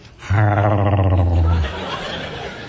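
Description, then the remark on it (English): A man's voice lets out a single drawn-out, wavering whine, imitating a lovesick puppy, fairly loud for over a second before trailing into quiet. “And, you know, puppy love is when you just look at somebody and go, you know, like a puppy.”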